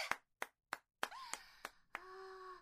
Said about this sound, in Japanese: なんと、去年の服がちゃんと着られるようになりました！はい、拍手！